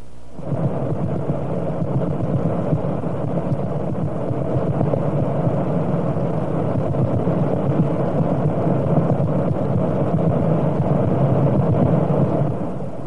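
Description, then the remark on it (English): Steady, dense radio hiss and rumbling static fills the whole recording, with faint rapid pulses from a pulsar, thought to be a neutron star, repeating every quarter second beneath the noise. No voices. “So as we listen to this, you'll notice a lot of hiss and noise, but interspersed, you ought to hear a few pulses which repeat at every quarter second interval.”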